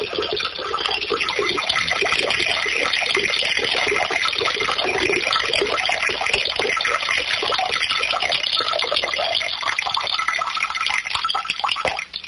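A steady stream of liquid splashes into water for about twelve seconds, a continuous trickling and pouring like someone urinating into a toilet bowl, with no voices.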